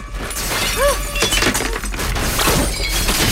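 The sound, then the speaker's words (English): A ceramic urn on a mantelpiece, struck by a tiny falling meteor, smashes with a loud crash, followed by a scatter of breaking, clattering fragments that skitter and settle over a few seconds, fairly loud with no voices. “Another tiny meteor fires down, shattering an urn on the mantelpiece.”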